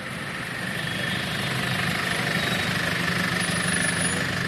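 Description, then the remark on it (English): A steady, loud mechanical drone of engines and power tools running continuously, city noise with cars honking, people shouting and power tools finishing a job for the day, with a faint high whine appearing near the end. “Cars honked, people shouted. Some power tools were finishing a job for the day, but Karma had no idea what any of those noises were.”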